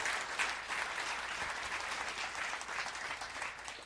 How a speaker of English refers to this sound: Brilliant. Thank you very much. Round of applause. Thank you, guys.